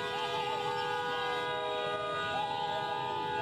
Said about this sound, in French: Ces acclamations et coups de klaxon sont des marques d'affection et de reconnaissance pour un enfant du pays.